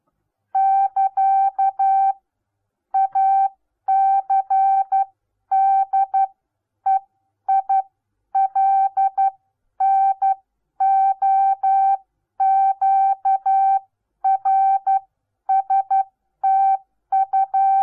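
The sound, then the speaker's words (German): Morse code sent by a tape-fed machine sender at examination speed: a steady mid-pitched tone keyed in crisp short and long beeps with even timing, grouped into characters separated by brief gaps, no voices. Characters: A, C, D, E, I, L, N, O, Q, R, S, T, U, X, digits 4, 5, 8, 9, 0. “Das ist etwa die Gebeweise des Streifengebers bei der Prüfung.”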